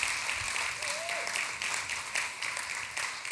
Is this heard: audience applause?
yes